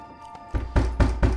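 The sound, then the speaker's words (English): A loud, heavy knocking on a door downstairs: four firm, evenly spaced thuds in quick succession, with a low booming body, alone without any voices. “Soon, there's a loud knock downstairs, and Hampton exchanges looks with the men who stand by his side.”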